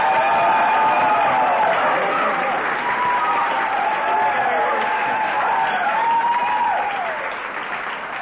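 A crowd applauds steadily, a dense wash of clapping that holds for about seven seconds before tapering slightly at the end, with faint voices and whoops mixed in.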